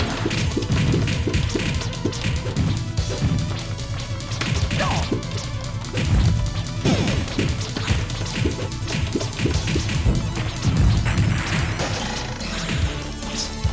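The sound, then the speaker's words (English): Repeated sharp wooden thwacks and smacks as a character on a pirate ship keeps walking face-first into wooden planks and getting hit in the face, bursting out at irregular intervals over a dense, constant layer of background sound. “Keep walking into planks and getting hit in the face.”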